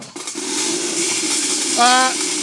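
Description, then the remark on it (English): A razor sharpening machine, a patent-pending razor re-energizer sharpening a blunted blade pressed into it, whirs with a steady hum under a loud, constant hiss, briefly rising into a higher mechanical whine near the end. “if your blade ever becomes blunted for any reason, simply press it into the Clutterbuck patent pending razor re-energizer.”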